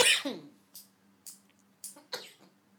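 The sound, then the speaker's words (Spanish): Someone coughs while smoking a small cigar: one harsh, forceful cough followed by a few shorter, weaker coughing bursts spaced unevenly over a couple of seconds, with a faint steady hum underneath. “¿Por qué toses?”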